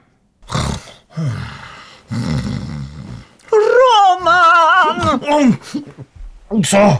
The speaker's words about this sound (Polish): Co się dzieje? Nic, chrapiesz. Ja nie chrapię.